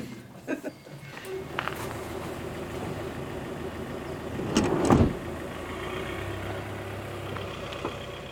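A car engine idles with a steady low hum, a few clicks and thumps of a door early on, then the engine swells into a brief surge around the middle as the vehicle drives off, a steady rumble continuing afterward.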